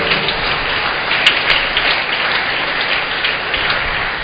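Sustained applause from a large church audience thanking a priest at Mass, a dense, steady wash of clapping filling the whole stretch without pause, with no voices standing out above it.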